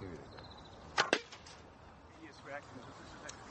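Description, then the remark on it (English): An arrow is loosed from a bow and strikes a dummy, passing right through it and held in only by its fletchings: a sharp snap of release followed almost instantly by a hard thwack of impact, both loud against a quiet background. “gone right through the dummy, kept only in by the fletchings.”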